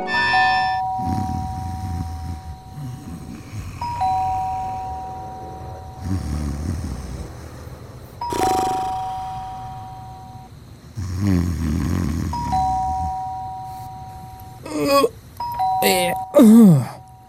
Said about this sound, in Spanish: ¿Pero quién timbra un domingo a las 7 de la mañana, hombre?